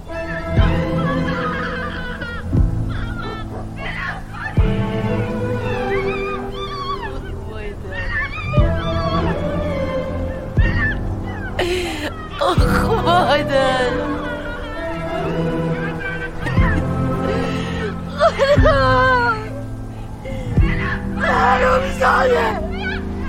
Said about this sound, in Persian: گریه میکنه.